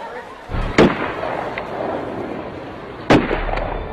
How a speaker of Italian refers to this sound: Sono le 17:17. Un rumore sordo, ripetuto. Non c'è dubbio, si tratta di spari di arma da fuoco.